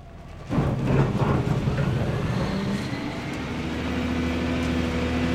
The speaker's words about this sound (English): Wake Stone already operates a quarry directly next to the Oddfellows site. It's right along I-40 off Harrison Avenue. Dump trucks drive in and out all day, and heavy machinery crushes and hauls stone that's used in all kinds of construction.